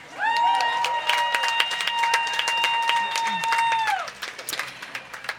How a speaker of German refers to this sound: Großen Applaus an uns alle.